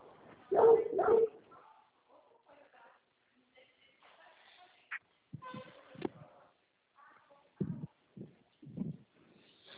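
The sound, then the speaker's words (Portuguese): A dog barks, a pair of loud barks at the start, then scattered shorter barks and yips later, with some muffled talking and background noise in between. “Ah, sim, cachorro.”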